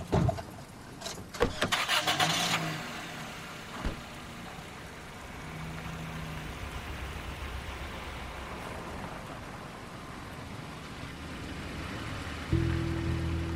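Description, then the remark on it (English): A car door thuds and an engine starts up, then idles and hums steadily as the car slowly pulls out of a driveway, with a low rumble swelling near the end. “They get into Rose's car and pull out of the driveway.”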